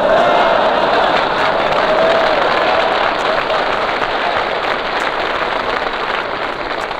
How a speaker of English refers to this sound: What, have you got a relative out there applauding or something?